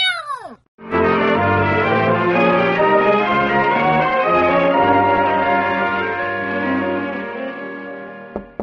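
A cat named Aesop, being pulled by the tail, lets out a short, falling screech, then a loud, drawn-out yowl that wails on for several seconds before cutting off, with no talking.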